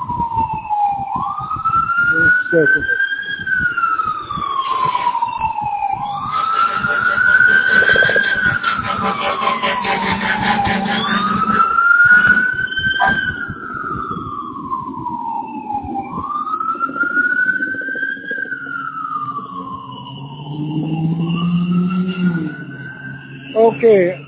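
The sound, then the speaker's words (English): A loud ambulance siren wails in slow, repeating rise-and-fall sweeps about five seconds apart, with a low traffic rumble underneath throughout. “This ambulance calls.”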